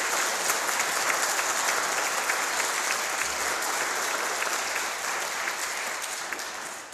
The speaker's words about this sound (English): So I think a round of applause. Really, really appropriate.